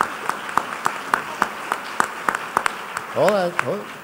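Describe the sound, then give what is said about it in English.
Steady, evenly spaced hand claps from an audience applauding its own volunteer participation, about three per second and fairly sharp, continue for several seconds before a brief rising voice cuts in near the end. “So first of all, give yourselves all a round of applause for that participation.”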